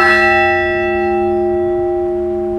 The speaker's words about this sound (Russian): И третий, завершающий группу благовестников, постный колокол. Вот, им звонят особенно в Великий пост практически ежедневно.